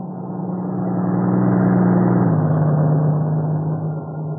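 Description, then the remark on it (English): A truck from the plant in Maywood drones steadily on the road, swelling in loudness with a low, humming pitch that dips partway through as it passes, then holds. No one speaks. “If it's one of the trucks from the plant in Maywood, I'll be able to tell in a minute.”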